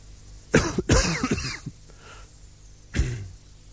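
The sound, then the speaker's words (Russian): A deliberate throat-clearing cough, fairly loud: a short hack, then a longer rasping clear, and after a brief pause one more single cough, with no talking. “И даже если это слово «подумать» там у себя в мозгу подумаешь, и тут же, как бы извиняясь за него, споткнешься и откашляешься.”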